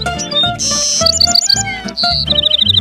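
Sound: birds chirping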